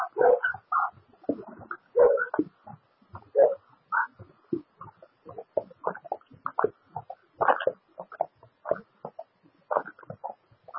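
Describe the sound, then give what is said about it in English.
A dog barks over and over in quick, uneven bursts of short yaps, steady for the whole stretch, with no one talking. “That dog.”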